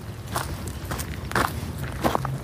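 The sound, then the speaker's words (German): Footsteps of two people crunch over the ground at a steady walking pace as they walk to the entrance of a marmot nursery burrow, about five distinct steps in a couple of seconds, with a low hum underneath and no talking. “Wir sind jetzt mal zu dem Eingang von dem Wurfbau hingegangen”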